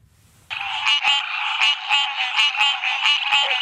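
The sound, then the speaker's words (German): A loud chorus of American green tree frogs (bright green, 6 to 7 cm long) kicks in after a brief quiet moment, a dense nasal honking buzz with repeated sharp pulses roughly every half second, steady and unbroken to the end. “Das ist der Carolina-Laubfrosch, mit dessen Gehör sich Mark Bee beschäftigt.”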